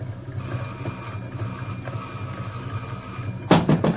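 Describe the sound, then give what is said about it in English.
A doorbell is rung on and on by a caller at the door in a steady, insistent electric jangle, fairly loud, followed near the end by a few sharp louder bursts. “I've been ringing this bell for 5 minutes.”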